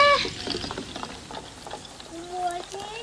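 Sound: water splashing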